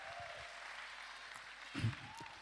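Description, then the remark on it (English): An audience applauds a man who has just come in, clapping in a steady, dense wash that holds throughout, with a brief louder burst near the end like a shout or cheer. “Let's give him a round of applause, okay?”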